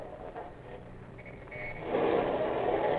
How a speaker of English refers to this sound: Start the car, Toots, and get moving. All right.